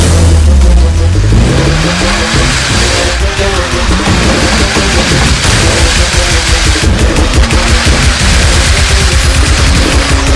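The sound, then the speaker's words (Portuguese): A tuned, lowered car's engine revs hard at maximum acceleration, its pitch climbing early on, then staying loud and continuous with rapid crackling, popping bursts layered over a dense background. “Carro tunado, máxima aceleração.”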